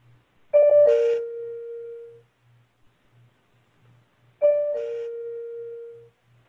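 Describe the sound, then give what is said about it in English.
An electronic two-note failure chime plays twice, a few seconds apart: a sharp higher tone dropping to a lower sustained note that fades out, over a faint pulsing low hum. “Yeah, this is a failure chime. I'm sorry. Let's hear another failure tone.”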